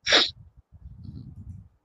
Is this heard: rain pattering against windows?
no